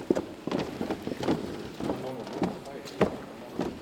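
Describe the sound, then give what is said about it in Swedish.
Steady footsteps walk at an even pace, about seven hollow steps ringing out in a reverberant church interior, walking from the nave up toward the chancel. “Nu går vi upp emot det som kallas för kyrkans kor.”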